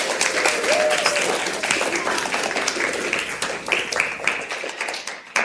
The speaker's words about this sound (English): And clap, we made it through, right? Yeah, cool.